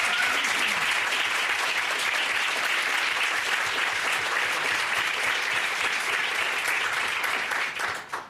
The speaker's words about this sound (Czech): Doufám, že to nebyl potlesk tak vřelý, protože všichni chtějí zápočet od Petra Juračky.